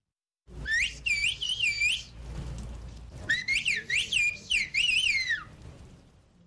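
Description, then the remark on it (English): A person whistles in the endangered whistled bird language of a mountainous area of Turkey, in a high, warbling pattern of rising and falling phrases, in two bursts separated by a short pause, over a low rumbling background. “The UN's Educational, Scientific, and Cultural Organization, or UNESCO, has identified the bird language as an endangered cultural heritage.”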